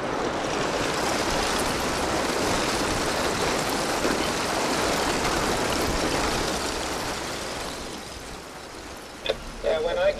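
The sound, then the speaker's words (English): Thin shards of ice from a thin ice cover on mostly open water clink and crackle continuously against a ship's hull, like ice cubes in a glass, blended into a steady, dense rush of churning water; the wash eases slightly near the end as a voice briefly begins. “This is mostly open water, but there is some thin ice cover, and you can hear what just sounds like ice cubes in your glass, shards of ice clinking away at the hull.”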